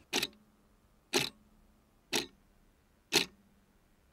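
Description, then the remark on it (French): A large central clock in a big hall where people wait to board ticks slowly and steadily, about once per second, each sharp tick ringing briefly and echoing, over a faint low hum. “Le bruit de l'horloge centrale résonne dans mon crâne.”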